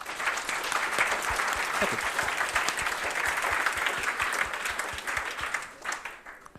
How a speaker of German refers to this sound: Und da nochmal einen herzlichen Applaus für diese Gruppe.